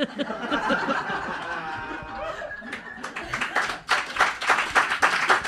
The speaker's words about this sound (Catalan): No, no aplaudan que lo pasamos mal, lo pasamos mal, él es muy tímido